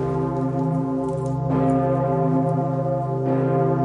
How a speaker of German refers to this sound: Für alle läutet die Pommerin, so heißt die große alte Glocke im Nordturm des Stephansdoms. Sie läutet nur zu ganz besonderen Anlässen, und das ist so einer.